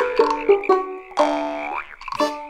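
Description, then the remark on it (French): A cartoonish small, hungry frog croaking: three short twangy croaks, then a longer drawn-out croak that bends upward, and a final quick one, loud with no one talking. “la petite grenouille est affamée.”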